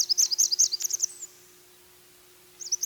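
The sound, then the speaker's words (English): A Blackburnian warbler's thin, very high lisping song in the treetops: a rapid run of sibilant notes for about a second, a pause, then a few more high notes starting again, clear. “How can anyone mourn the sunshine while watching the flaming orange and black markings of a Blackburnian warbler through the mist, or listening to its sweet high lisp in the treetops?”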